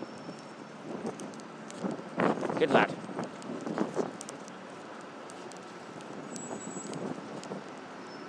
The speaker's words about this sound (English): You can also hear the wind, a bit breezy here.